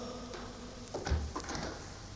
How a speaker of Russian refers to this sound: Дверь закрылась. Щелкнул замок, и братья остались одни.